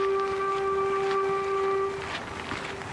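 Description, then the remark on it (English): A single long, steady train whistle hoot sounds for about two seconds along a disused railway line, then breaks off and trails away in a faint echo over open outdoor ambience. “We're walking along a disused railway line and suddenly you hear the hoot from a train.”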